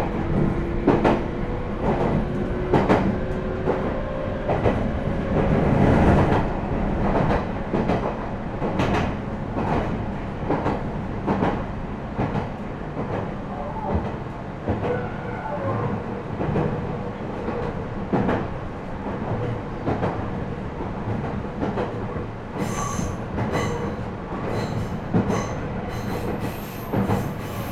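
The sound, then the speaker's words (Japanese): A train approaching Kasamatsu, the end of the line, where passengers for Gifu and Nagoya change trains, rolls steadily along the rails with a dense rumble, rhythmic clacks of the wheels over joints, and faint high squeals, continuing alone without any voices. “この先、岐阜方面をお越しのお客様と名古屋方面をお越しのお客様はお乗り換えです。”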